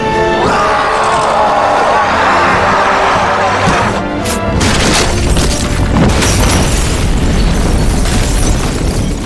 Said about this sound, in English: You can see the fucking explosion over his shoulder.